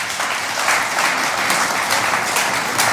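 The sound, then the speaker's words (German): Sustained applause from an audience for singers and musicians at a folk music event in Tyrol, a dense, steady wash of many hands clapping at once, loud and continuous without pause, with no voices standing out. “Nach dem Applaus bei unseren Sängern und Musikanten bedanken.”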